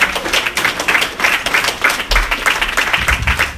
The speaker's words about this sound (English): All right, guys, big round of applause for the Drake stand-up comedy, my man, Mr. Vic Pena!